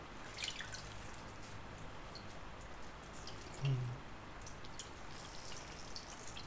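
Quiet water sounds as a soft cloth is dipped and wrung in a bowl of cool water with ice cubes, with soft drips and trickles and one slightly louder splash midway, no talking.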